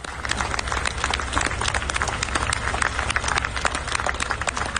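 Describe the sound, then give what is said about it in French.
A large crowd applauds Paris firefighters after their intervention, with dense, overlapping claps holding at an even, fairly loud level for the whole stretch, with a low rumble underneath and no talking. “Et la deuxième vidéo qui a beaucoup été partagée, c'est avec les pompiers parisiens largement applaudis après leur intervention.”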